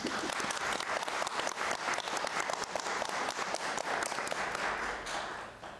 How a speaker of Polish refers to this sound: Bardzo serdecznie wszystkim naszym sponsorom dziękujemy. No mogą być brawa nawet teraz.